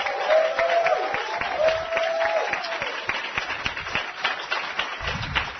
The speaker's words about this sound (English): We're about to meet the challengers, but before we do, I want to say congratulations and give yourselves another big round of applause for being a part of this.